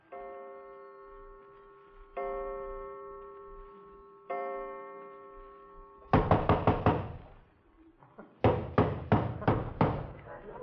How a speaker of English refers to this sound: Have you ever been awakened in the middle of the night by some character pounding at the door and hiccuping with a British accent? Well, I have.